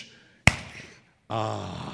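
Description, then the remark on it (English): A person performs a firecracker clap: a soft hissing swoosh of the hands leads into a single sharp, loud clap that rings briefly, followed after a short pause by a voice. “And a firecracker clap goes like this, swoosh!”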